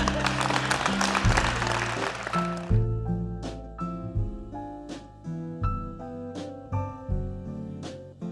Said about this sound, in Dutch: Dankjewel. Applaus voor de Friesin.